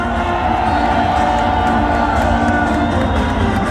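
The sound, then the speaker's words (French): A large crowd cheers loudly and without pause as Éric Zemmour is welcomed, a dense, steady roar of many voices with scattered whoops and shouts rising above it. “Mes chers amis, quelle joie, quel bonheur, quelle foule, quel ciel.”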